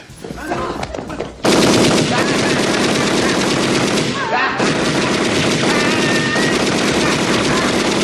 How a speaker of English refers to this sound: I believe you. But my Tommy gun don't. I'm gonna give you to the count of three to get your lousy, lying, low-down, four-flushing carcass out my door. One. Two.